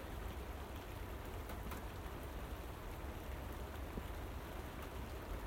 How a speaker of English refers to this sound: Actually, that rain's quite cold in my hands.